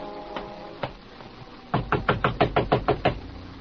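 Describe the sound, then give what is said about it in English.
A few scattered thuds, then a rapid, insistent run of about nine loud knocks on a door, evenly spaced, with no voices, as someone demands that the person inside open up. “All right, Payne. Open up. I know you're in there, so open up.”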